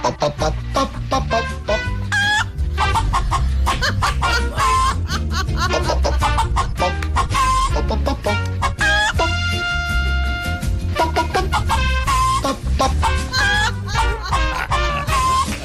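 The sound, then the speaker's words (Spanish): A loud, choppy humming melody in a remix, set over a steady beat, the humming voice bouncing in short clucking bursts like a hen, with one long held note partway through. “es que parecías un poco una gallina ahí tatareando de esta forma.”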